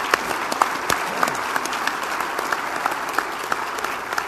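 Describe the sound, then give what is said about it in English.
A room full of people applauding Jerry Simonson, the final panel member, steady dense clapping with scattered sharper claps standing out, sustained for several seconds at a moderate level with no talking. “So, nice round of applause for Jerry Simonson, our final panel member.”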